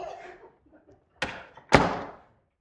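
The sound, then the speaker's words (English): A door is opened and closed for someone: a brief rustle, then two sharp knocks about half a second apart, the second a louder thud like it swinging shut, each trailing off quickly. “Can I get that door for you?”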